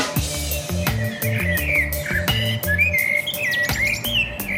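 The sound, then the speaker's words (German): A lively chorus of birds whistles and chirps together in a relatively large deciduous tree, with bright, sweeping calls overlapping continuously and fairly loud, over a low, steady background rumble. No one speaks. “Und von dem Lärm her würde ich sagen, da sind alle am Pfeifen.”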